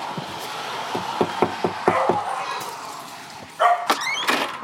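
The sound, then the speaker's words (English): A dog barks in Vancouver, Washington, in a quick run of short, sharp yaps, then gives a few more louder barks a moment later, set against a steady outdoor background hiss. “I didn't think that dog would bark.”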